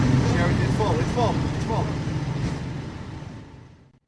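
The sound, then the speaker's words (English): A bus engine idles with a steady low rumble while passengers board and indistinct voices murmur, the whole scene fading out at the end. “All my colleagues are on this bus.”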